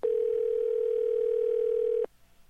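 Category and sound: signal or alarm, telephone dial tone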